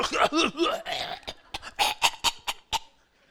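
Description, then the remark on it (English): A voice imitates a deep, hacking smoker's cough: strained, groaning vocal sounds followed by a rapid run of about six harsh, raspy cough bursts, fairly loud, with no other talk. “She's coughing. You know, one of those deep coughs where it feels like everything's going to come out instead, including the lung.”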